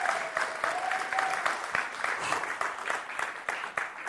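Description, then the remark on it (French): An audience applauds the Lord together in a steady, dense wash of clapping that holds at a fairly even level throughout, with individual sharp claps standing out and a faint whistle or tone near the start. “On va applaudir le Seigneur ensemble.”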